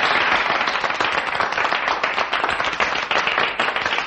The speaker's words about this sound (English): Gentlemen, thank you for your generous applause.